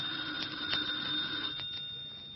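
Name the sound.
telephone ringing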